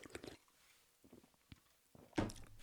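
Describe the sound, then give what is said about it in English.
Quiet mouth noises of someone sipping AHA brand lime and watermelon sparkling water: a few soft clicks and gulps, then a louder, brief slurping swallow near the end. “All right, I had to have a sip.”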